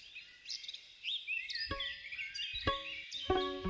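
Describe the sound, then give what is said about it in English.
Several songbirds sing and chirp at once at dawn in trees and bushes, a bright, busy chorus of warbling trills and whistles, steady, with a few sharp louder calls standing out. “mic up a bunch of trees and bushes where he knew songbirds liked to sing at dawn”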